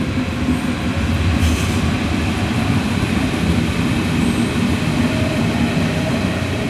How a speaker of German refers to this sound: Wenn ich hier so in die S-Bahn reingucke, ist um 6.30 Uhr schon ganz schön was los. Und schön viele Menschen schon drin.